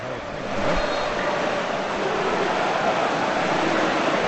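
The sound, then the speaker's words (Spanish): Rain pours steadily onto the stadium roof during a football match, a dense, even hiss with a faint low rumble underneath, unbroken for the whole stretch and with no voices. “Por cierto, cuando os calláis, suena el agua, no sé si estamparse, sí, contra la cubierta.”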